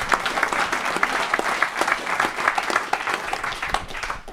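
An audience applauds steadily, many hands clapping in a dense, continuous patter that holds at a fairly loud level throughout, with no voices standing out.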